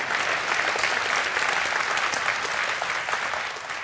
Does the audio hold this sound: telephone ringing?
no